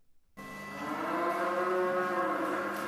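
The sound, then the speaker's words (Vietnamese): A dairy cow on a farm in the Kozaras region of northwestern Bosnia and Herzegovina lets out a single long, loud moo that begins abruptly and swells steadily, holding its drawn-out, rough tone to the end with no voices around it. “Trang trại nuôi bò sữa này không giống với bất cứ trang trại nào ở vùng Kozaras thuộc miền Tây Bắc của nước Bosnia và Herzegovina.”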